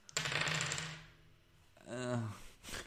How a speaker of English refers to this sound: These dice have a tendency to roll very high. That's a little short. How about third time lucky?